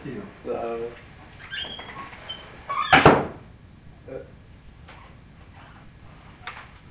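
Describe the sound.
A door creaks briefly and then shuts with one sharp knock, followed by a few faint, scattered taps. Soft voices murmur in the background.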